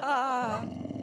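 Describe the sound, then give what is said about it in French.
A voice imitates a lion's roar, starting with a loud, wavering tonal bellow that breaks into a rough, rumbling growl before trailing off after about a second. “Est-ce que vous êtes un être humain ou un animal ? On peut vous voir aux autres Vincennes. C'est Simba du Roi Lion.”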